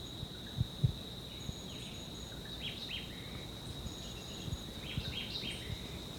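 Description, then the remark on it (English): Two short bursts of Jamaican white-eyed vireo song, about 30 meters away in dense vegetation along a ridgetop, one early and one late, ending in a low terminal buzz, set against a steady high insect whine and a few soft low thumps. “This is still a white eye.”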